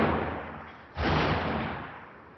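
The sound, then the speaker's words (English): A single shelling explosion in Bab al-Amr breaks through steady background noise, a muffled boom that swells suddenly and then rumbles away slowly over the next second or so. No one speaks. “I think you can hear the explosion.”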